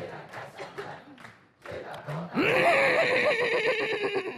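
A horse lets out a loud, drawn-out whinny in the second half, shrill and quavering. Before it come a few short, sharp knocking sounds and rustling.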